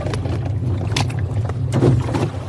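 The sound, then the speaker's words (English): A motorboat engine drones steadily as the boat speeds back across a bay, with water rushing and slapping against the hull and wind buffeting the microphone. The people aboard are soaking wet and holding on tightly. “With the engine back on, we speed back, soaking wet, all holding on tightly.”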